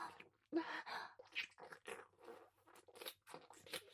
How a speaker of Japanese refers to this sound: 全部すすってあげます。なんとはしたない音。神に仕えるものが出していい音ではありません。ですが、すするの止められません。